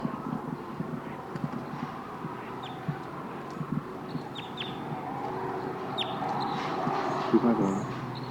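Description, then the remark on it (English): Wild birds call repeatedly in short, sharp, high-pitched notes, scattered irregularly over a steady low rumbling background. The calls are fairly prominent, and no one speaks. “The wild birds are calling loud now.”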